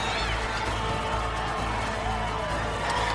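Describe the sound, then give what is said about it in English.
A Mississippi crowd at a fight gives a standing ovation as a unanimous decision is announced, a dense, steady roar of cheering and applause that holds at the same loud level without a break for the whole stretch. “Standing ovation from this Mississippi crowd.”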